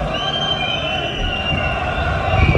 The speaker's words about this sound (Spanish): Abucheos del público del Barça, de los 1000 culés que todavía quedaban en el estadio nada más finalizar el partido